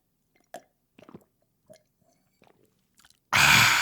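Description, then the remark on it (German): Close, wet mouth sounds of someone drinking: a few short sips and swallows with quiet gaps between them, followed by a sudden loud, breathy burst at the end. “Ja, das bedeutet auch, und das habe ich auch aus anderen Podcasts, dass man mal irgendwie was trinken muss zwischendurch. Das hört sich dann so an.”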